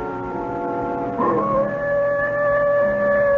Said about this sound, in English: That wolf again.